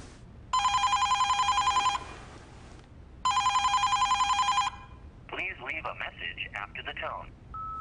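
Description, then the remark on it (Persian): A telephone rings twice in steady bursts, each trill lasting over a second with a pause between, followed by a voice speaking. “الو الو، کسی تو این خراب شدنی؟ گوشی رو بردارین”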